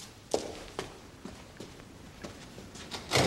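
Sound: door closing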